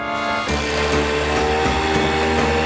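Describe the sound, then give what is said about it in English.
A wave runner engine revs up with a loud, steady mechanical whine and low rumble, its pitch shifting slightly as the throttle changes, as it carries two men under a bridge and out across a bay among tourists on the water. No voices heard. “Their mode of transportation? Wave runner.”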